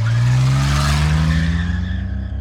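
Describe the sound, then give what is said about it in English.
A man gets into his car and drives off: the car engine roars loudly as the tires squeal and the vehicle peels away, the harsh screech and engine drone tapering off slightly over a couple of seconds. “he just gets up, walks out of the room, walks outside, gets into his car, and drives off.”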